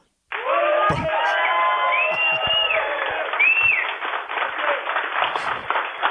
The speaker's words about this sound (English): So they are covering our conference. So if I'm going to hold the phone up, if everyone here can give a big shout out and applause to Red River Radio